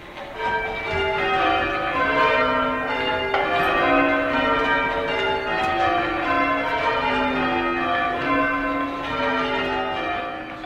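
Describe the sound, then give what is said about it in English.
Church bells peal continuously for the whole stretch, overlapping tones ringing out in a steady, busy cascade with a rich, lingering resonance, moderately loud and with no voices. “It's meant to be a background sound. It's bells are ringing.”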